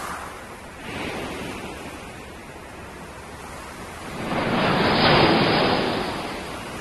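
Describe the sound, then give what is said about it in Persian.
Large waves surge and wash in broad swells around a ship slowly moving through floodwater after heavy rain, a steady roar of churning water rising twice to a loud peak, with no voices present. “سیل را افتاد، کشتی آرام آرام در آب بسیاری که دور و برش جمع شده بود به حرکت درآمد و موج‌های بزرگی پدید آمد.”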